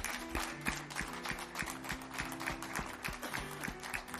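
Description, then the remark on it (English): A morning church audience claps together as a hand clap of praise to Jesus, a dense, sustained burst of hand claps, with a faint steady organ-like tone held underneath for the full length. “But could we this morning just give Jesus a hand clap of praise because he's worthy?”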